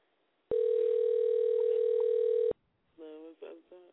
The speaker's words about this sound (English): Well, answer the damn phone.